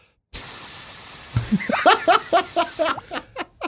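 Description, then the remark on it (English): A voice imitates the mist spraying from a leaking pipe with a steady, high, breathy hiss for about two and a half seconds, with chuckling, voiced sounds breaking in over its second half before it cuts off. “But when they start the little mist, then you're screwed.”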